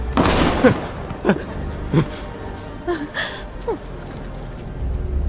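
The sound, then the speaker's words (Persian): A quick volley of sharp gunshots, four or five loud cracks at uneven intervals, with brief gasping vocal sounds mixed between the shots, fired at a person during a robbery. “بهش شلیک کردی؟”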